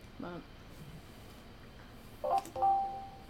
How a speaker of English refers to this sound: What the hell is happening? Sorry, my phone's going off.